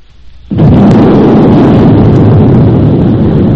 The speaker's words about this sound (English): Four 4,000 miles from the scene, President Woodrow Wilson touched the button which set off 8 tons of dynamite, destroying the Gamboa Dike, the last obstruction to navigation from Atlantic to Pacific through the Panama Canal. 1913, that was the year.